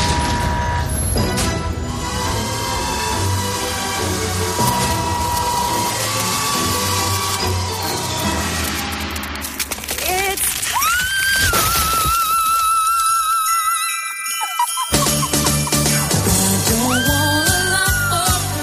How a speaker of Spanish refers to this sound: Este es el sonido del encendido de luces de Navidad en la localidad sevillana de Estepa